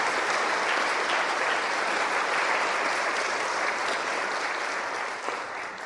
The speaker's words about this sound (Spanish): Por favor, un aplauso de afecto para Monseñor Leonardo.